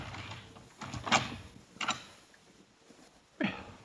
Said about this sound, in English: Let me try the front door, just for luck.